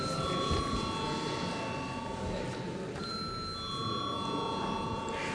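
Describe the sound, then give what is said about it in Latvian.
A parliament bell rings continuously to call deputies to a vote on a bill in its third reading, a steady, bright electric tone held for several seconds over a busy background of room murmur and shuffling. “Paldies, lūdzu zvanu.”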